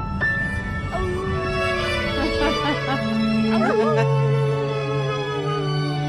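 A dog named Popeye howls and whimpers in long, wavering tones over a song playing, its voice rising and falling as if singing along with the music.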